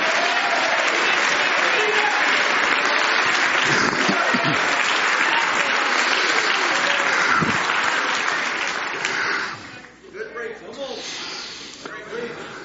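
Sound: audience clapping hands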